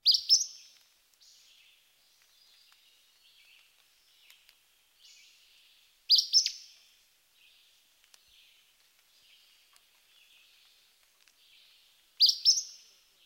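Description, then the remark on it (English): An Acadian flycatcher's sharp, explosive, high-pitched simple song phrase rings out three times, about six seconds apart, with faint chirping from other birds softly filling the gaps. “Next, the flycatcher.”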